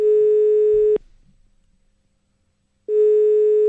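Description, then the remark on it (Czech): A telephone ringing tone plays through the earpiece as a call connects: a steady, buzzy electronic tone lasting about a second, then a long silent gap before it sounds again. “Paní Šepková chtěla, abychom vytočili jejího muže, protože jí naštval.”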